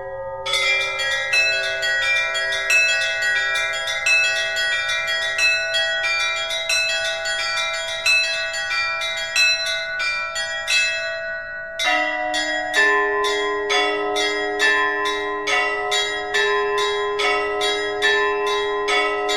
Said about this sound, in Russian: А сейчас мне хотелось бы, коли уж мы говорим об утверждении православия, порадовать вас, дорогие радиослушатели, колокольным звоном одного из знаменитых северных монастырей.